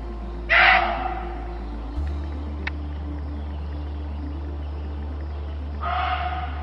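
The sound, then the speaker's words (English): A muntjac deer screams twice, loud harsh hoarse cries several seconds apart, over a low steady hum with no talking. “Oi, deer scream? Muntjac deer do.”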